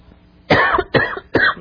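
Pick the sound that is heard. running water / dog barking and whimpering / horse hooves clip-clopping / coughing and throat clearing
coughing and throat clearing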